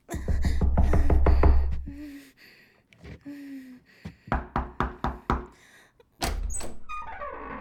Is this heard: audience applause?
no